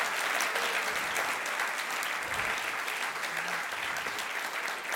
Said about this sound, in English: we are coming to you live from Seattle for the 16th annual edition of Microsoft's Marquee Innovation Competition for Students. You can applaud again. That's the one.